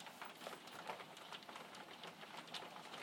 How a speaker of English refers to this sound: You can't usually hear it when it rains here through the double glazing, but you can hear it. You can hear it now. On the patio doors.